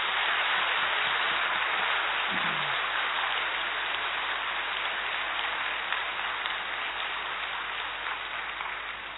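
A crowd stands and claps steadily in a dense, continuous wash of applause to welcome a guest at an organization's gathering in Rajasthan, holding strong for about nine seconds before easing off slightly at the end, with no voices standing out.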